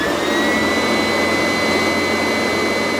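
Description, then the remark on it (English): A vacuum cleaner runs steadily with a loud, constant roar and a high whine, unbroken for the whole stretch, with no voices. “turned on my lie detector machine, which ran with a horrible roar. In truth, I was really running the vacuum cleaner.”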